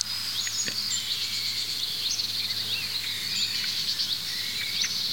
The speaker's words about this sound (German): Jetzt schimpfen die Meisen da hinten, da werde ich mal hingehen. Die Amsel ist immer noch aufgeregt, wie ihr hört.